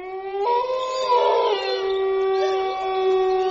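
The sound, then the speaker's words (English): Long, drawn-out coyote howls overlap in a steady chorus, one voice joining just after the start and holding with slight pitch bends, loud, with no talking. “Bill did all the things those animals did, like chase lizards and howl at the moon.”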